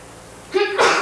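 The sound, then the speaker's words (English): A single fairly loud sneeze: a brief voiced intake building into a sharp, hissy burst, heard on its own after a quiet moment. “Gesundheit.”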